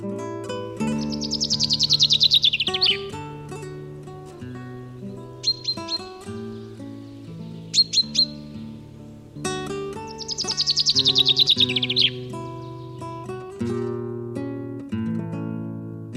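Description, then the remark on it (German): A common chaffinch sings two bright, descending trilled phrases ending in a flourish, separated by a few short chirps, all over a steady low musical background. “Das war der Buchfink.”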